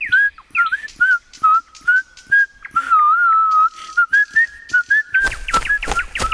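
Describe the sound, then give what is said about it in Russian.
Someone whistles the folk tune Kamarinskaya, a clear wandering melody with pitch rising and falling over several seconds. Faint taps sound underneath, and a rustling burst of noise joins at the end. “Какую мелодию вы только что насвистывали?”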